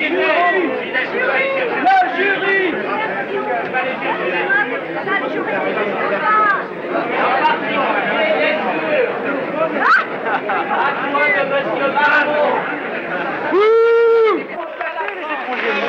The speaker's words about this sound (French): L'assistance alors va décider de quitter la salle Jean Cocteau et d'aller occuper la grande salle où la foule devient de plus en plus nombreuse.